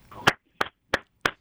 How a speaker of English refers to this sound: That's me clapping for Connor.